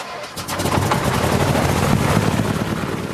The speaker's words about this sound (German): Konstantin Gerilowski klettert ins Cockpit. Andreas Tretner sieht zu, wie der Pilot Carsten Lindemann den Motor anlässt und zur Startbahn rollt.